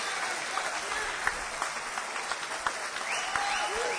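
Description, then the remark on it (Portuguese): An audience applauds the Lord, a dense wash of many hands clapping with scattered sharper claps poking through, sustained at an even loudness for the whole stretch. “O inferno crê no que você está crendo quando aplaudiu o Senhor, ele até treme como você tremeu, mas ele não pode aplaudir como você aplaudiu!”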